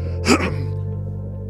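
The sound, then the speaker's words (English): A single short, breathy intake of air through the nose during a meditation breathing exercise, fairly distinct, followed by a low steady hum that continues to the end. “My preference is to inhale through the nose and exhale through the mouth.”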